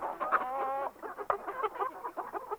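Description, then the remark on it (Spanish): A turkey clucks calmly, a steady run of soft, throaty calls with a brief louder note partway through, and no talking. “Este es un pavo tranquilo.”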